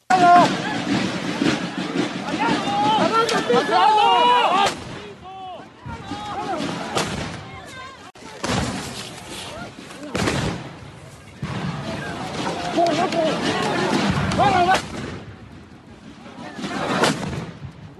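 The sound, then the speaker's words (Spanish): Loud firecracker and rocket blasts go off at irregular intervals at a protest over the disappearance of 43 students, held at Military Camp No. 1 in Mexico City, sharp booming bangs echoing over a noisy crowd with people shouting throughout. “Las protestas subieron de tono, hubo cohetones, hubo petardos.”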